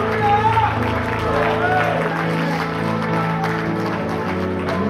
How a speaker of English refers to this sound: If you're appreciative and you believe that you're leaving greater than you came, give Jesus a good hand clap of praise today.